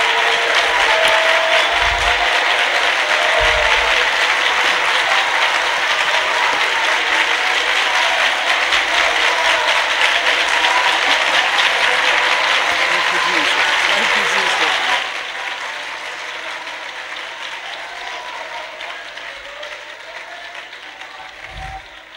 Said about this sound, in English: Clap your hands and worship the Lord. Thank you, Father. Thank you, Father.